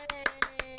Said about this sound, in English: I was going to say, it's not applause, it's ass applause.